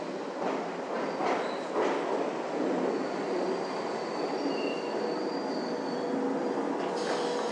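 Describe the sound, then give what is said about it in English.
A London Underground Circle Line train rumbles along steadily, with thin high-pitched wheel squeals drifting over the loud roar and a few knocks and clatters near the start. “It sounds like a Circle Line.”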